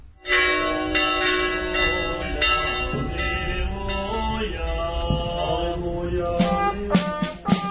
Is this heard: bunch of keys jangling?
no